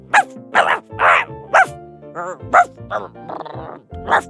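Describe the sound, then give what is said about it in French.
A dog named Toulouse, at its kennel in a garden, barks about eight sharp, loud barks in quick, uneven succession, with brief pauses and a few softer, whining yelps mixed in. “en prenant un tunnel qui les amena directement dans la niche du chien”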